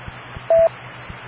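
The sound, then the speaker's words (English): Radio repeater beeps: a steady mid-pitched tone lasting under a second, then a second beep made of two stacked tones, over a low rhythmic thumping hum and faint hiss. “I believe beyond 11 o'clock, the timing of this repeater goes into a different timing, and we get different beeps.”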